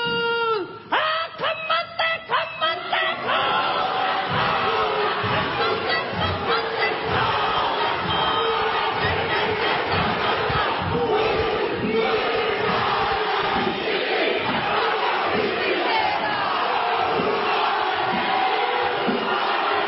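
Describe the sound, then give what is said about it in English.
Politicians in New Zealand's Parliament chant a haka to protest legislation, loud rhythmic shouting with steady percussive pulses, opening with a few sharp, separated calls before settling into a sustained forceful chant. “several politicians in New Zealand just broke out into a primal Stone Age war dance called the Haka”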